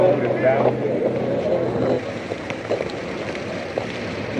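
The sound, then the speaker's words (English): Busy outdoor street noise with a steady low engine rumble from police motorcycles, and crackly, garbled police radio voices cutting in and out over the constant background wash. “You hear the police radios in the street on police motorcycles.”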